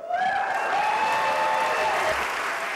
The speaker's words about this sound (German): Und da gab's doch viel Jubel, also einstimmig, einhellig ist beschlossen worden, nicht einen einzigen oder eine einzige Künstlerin auszuzeichnen, sondern diesen Preis allen 4 Finalisten zuzusprechen, zu gewähren.